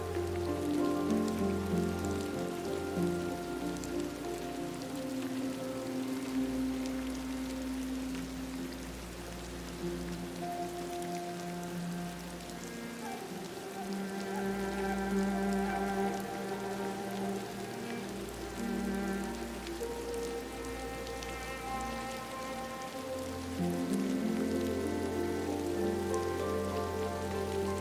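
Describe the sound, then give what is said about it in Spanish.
Steady rain patters on a koi pond, a continuous hiss of drops layered over sustained, low musical tones that swell and shift throughout. Nobody speaks. “Aquí abrazas la eterna sabiduría de la lluvia.”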